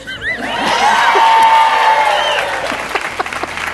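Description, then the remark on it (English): A crowd bursts into loud applause and cheering for NPR Music writer and editor Stephen Thompson, with whoops and shouts rising over dense clapping that swells, holds steady, then tapers into scattered claps near the end. “the people needed to cheer me, so just...”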